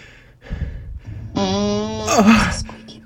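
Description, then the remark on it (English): A comical fart sound effect played on request through an Alexa smart speaker: a few low sputtering blasts, then a long buzzy tone that ends in a noisy, sagging raspberry, fairly loud. “Alexa. Please fart.”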